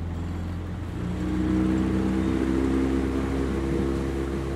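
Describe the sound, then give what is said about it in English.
A motorboat engine idles low, then revs up and settles into a steady drone as the boat sets off on the River Shannon, with water noise beneath it. No one speaks. “Pull the boat back. Mm-hmm. Pat makes a few last-minute adjustments. Grab some life jackets. And we're off.”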